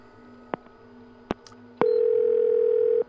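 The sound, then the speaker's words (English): A few sharp clicks, like a handset being handled, then a single steady electronic ring tone from an outgoing phone call, clear, lasting just over a second before cutting off. “Maybe she'll take your call now that she's not driving.”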